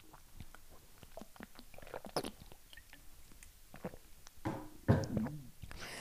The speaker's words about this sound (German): Oh, ich muss mich kurz sammeln, ich muss kurz einen Schluck Wasser trinken.